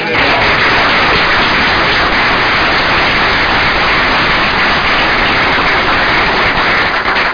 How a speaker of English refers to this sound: Give a round of applause for her.